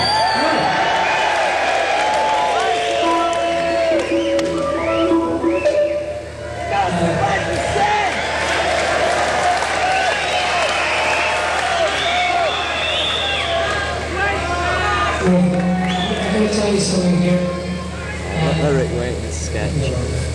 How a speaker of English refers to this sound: together you make a fantastic sound in the cheer. It sounds incredible.